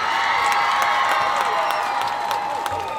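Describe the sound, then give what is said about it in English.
A large crowd cheers and applauds loudly and continuously, a dense wash of voices and whoops dotted with sharp claps that holds steady for the whole three seconds. “Oh my gosh, I feel like I should have like a sound drop of the cheering crowd.”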